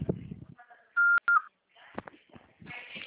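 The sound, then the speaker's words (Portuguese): Two short, loud, steady electronic beeps at one pitch sound back to back, with a brief gap between them: a voicemail beep tone after which the caller is to leave a message. They follow some faint murmuring; softer rustling and muffled sounds continue afterward. “Após o sinal, fale o seu nome e deixe o seu recado.”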